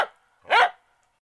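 A single sharp, loud dog bark rings out, preceded by a brief fading tail of a previous sound, with quiet afterward.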